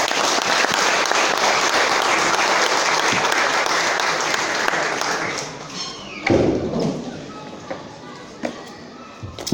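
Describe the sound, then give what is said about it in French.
A crowd claps loudly and steadily after a speech ends, a dense wash of applause that thins out after about six seconds into scattered claps and a few thumps, with some voices mixed in. “Est-ce qu'on peut applaudir encore très fort?”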